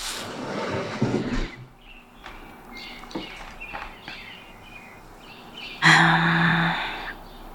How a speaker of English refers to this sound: It is around 5:16 a.m. Oh, I can hear birds outside. I'll open the window so you can too.